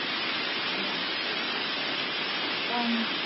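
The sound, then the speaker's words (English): Heavy rain pours in a dense, unbroken hiss that holds steady and loud throughout, with a brief faint tonal sound surfacing near the end. “It's very difficult to understand because of the rain.”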